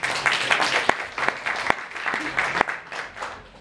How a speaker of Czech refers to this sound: Tak to musíme zatleskat přeci.